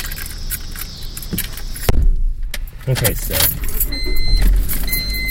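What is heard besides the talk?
getting into a car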